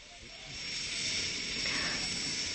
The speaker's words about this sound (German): Der Hubschrauber kommt.